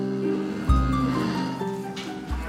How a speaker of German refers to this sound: Das ist Franzi. Das ist tatsächlich auch die Kuh, von der ich gerade eben erzählt habe, die haben wir Franzi und Resi, die ist da. Das sind die ersten beiden. Und Fresi ist jetzt 13, Franzi ist jetzt 12. Marmagen in der Eifel.